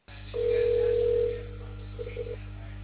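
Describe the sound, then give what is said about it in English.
A telephone ringing heard down a phone line as a call is placed to another number: one steady, fairly loud ring tone lasting about a second, followed by a few faint, short beeps over a low line hum. “Let me try the other number.”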